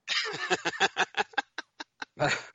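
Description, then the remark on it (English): A run of loud, nasal goose honks, rapid at first, then thinning into short separate calls, ending with one longer harsh honk, clear with no talking. “It's like geese.”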